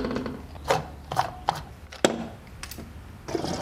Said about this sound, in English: He pops open the fuel door and unscrews the gas cap.